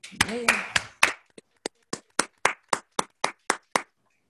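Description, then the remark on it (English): Applause at an OA meeting as people doing service for OA stand and applaud: a burst of voices and claps, then a dozen or so sharp, evenly spaced hand claps in a steady rhythm that stop abruptly. “Will all people doing service for OA at any level please stand and applaud service?”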